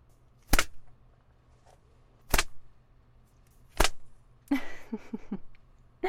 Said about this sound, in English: Oh, how does that feel? The leather slapping your thighs like that? I bet it stings, even through your pants.